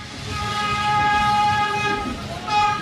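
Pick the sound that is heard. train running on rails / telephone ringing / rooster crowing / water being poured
train running on rails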